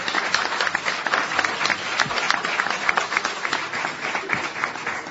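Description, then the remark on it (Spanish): Steady applause from a sizable crowd in the studio audience hall of the radio show En Perspectiva in Cardona, welcoming a guest. Many hands clap densely and continuously for several seconds at a fairly loud, even level, with no talking over it. “El aplauso para él, por supuesto.”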